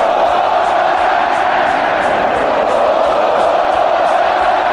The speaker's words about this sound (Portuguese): A torcida comemorou mesmo antes do apito final do juiz. O Brasil já vencia por 2 a 0 quando os gritos de olé tomaram conta do Mineirão.